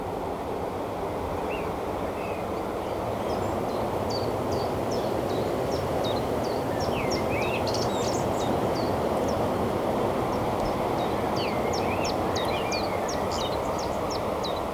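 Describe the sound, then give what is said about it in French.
A blackbird sings a series of short, bright phrases on the Sizun nature reserve in Brittany, France, overlooking the ocean, against a steady roar of ocean surf and wind. The birdsong sits fairly clearly above the constant wash of the sea. “Un merle. Un merle avec vue sur l'océan.”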